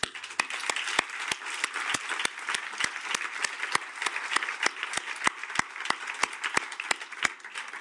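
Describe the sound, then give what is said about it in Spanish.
An audience applauds steadily for several seconds, a dense patter of many overlapping claps with sharper individual claps standing out. No one speaks. “Ese aplauso que oyes de fondo es para ti.”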